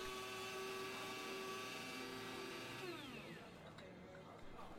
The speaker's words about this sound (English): Well, it's nice they're making coffee here at the diner. Diners run on this stuff. Fresh pots always welcome.